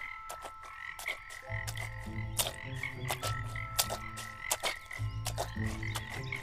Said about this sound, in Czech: Další noc skřídka Modřína vzbudil podivný zvuk. Slyšel čvachtání a kvákání žab.